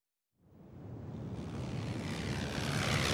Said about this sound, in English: One day, a plane flies over Colin's house.